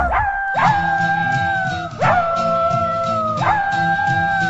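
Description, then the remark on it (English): Dogs howl in long, drawn-out wails, three rising howls that each start sharply and then hold steady, loud, over a steady rhythmic backing with no one talking. “And this is dedicated to Eduardo and all his dogs.”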